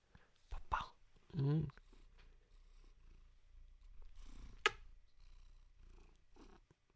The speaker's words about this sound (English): You purring? Oh. You're purring so loudly that he can hear you. Can you purr again?